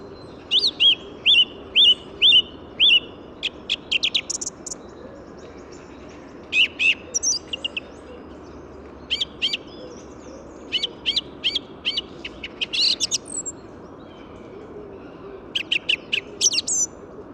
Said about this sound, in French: Et là, actuellement, pour ce presque lever du jour, je suis sur une grive musicienne, avec son chant posé, réfléchi, des phrases constituées de notes répétées, très agréables. Je vous laisse en juger.